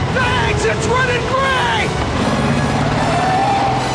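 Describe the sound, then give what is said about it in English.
A motorized airport stair truck drives off, its engine a loud, steady rumbling drone with wavering whining tones sliding up and down, and a voice briefly heard over the noise. “The flight of stairs drives off.”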